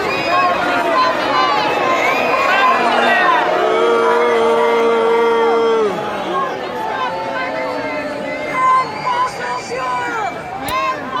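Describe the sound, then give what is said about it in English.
A large crowd boos and shouts together, a loud, dense wall of overlapping voices with long held jeers swelling up, staying heavy throughout and growing more scattered and ragged toward the end. “People are booing at them, is what you hear.”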